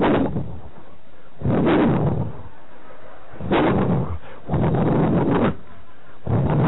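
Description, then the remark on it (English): A lowered car with a silver interior and fuzzy dice on the mirror starts and revs in a series of loud, rough, rumbling bursts, about five surges with short lulls between them, with no talking over it. “And when he starts the car up, it goes.”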